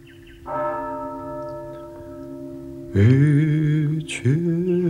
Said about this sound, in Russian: Вечерний звон. Бом-бом. Вечерний звон. Бом-бом.